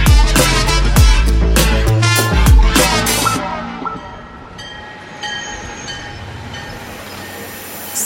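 A train rumbles past with loud rhythmic clattering, then settles into a steady, long sustained whistle tone over a lower mechanical hum. No voices.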